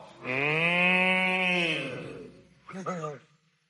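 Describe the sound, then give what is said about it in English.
A long, loud, drawn-out moo sung by a human voice, followed after a short pause by a second, shorter and wobbly moo, both clearly people imitating a cow. “If you're happy and you know it, and you really want to show it, if you're happy and you know it, moo like a cow.”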